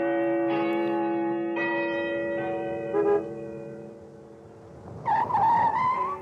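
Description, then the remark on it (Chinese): A large clock tower bell by the river in Shanghai tolls four times on schedule at a slow, steady pace, each deep, resonant strike ringing out and blending into a lingering hum. A short, rising squeal of a small car pulling up cuts in near the end. “江边的钟楼又按时响起来钟声”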